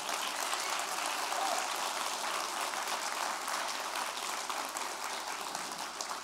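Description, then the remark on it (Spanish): An audience applauding Jesus during a sermon, a dense, steady wash of clapping that stays loud and continuous for several seconds without any voices over it. “Dale un aplauso a Jesús por eso.”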